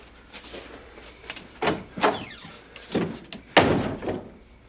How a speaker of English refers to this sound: Slam the car door on me. I thought you were going to get out the other side. Not when it's wedged against the garage.